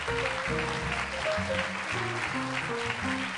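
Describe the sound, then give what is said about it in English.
A crowd claps steadily in a dense, sustained burst of applause, with a bright, stepping musical line playing underneath throughout. No one speaks. “No, don't applaud, because then I can't tell what.”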